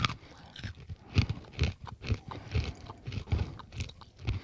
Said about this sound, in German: Ich muss gerade mal eine Vergleichsmandel essen, normale.